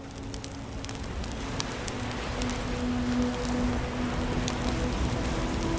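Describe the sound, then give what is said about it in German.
Fire burns steadily in seven open fire bowls at a temple on an island after dark, a continuous soft hiss and rush dotted with scattered sharp crackles and pops, with a faint low hum in the background and no voices. “Das Feuer der 7 Feuerschalen taucht den Tempel und den Platz in ein mystisches Licht.”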